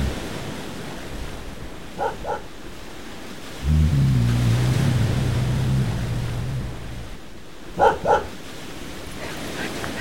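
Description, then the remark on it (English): A dog barks in two quick double bursts, a few seconds apart, over steady wind and surf noise, with a low droning rumble rising in between. “Shut up, you stupid pooch. Quiet.”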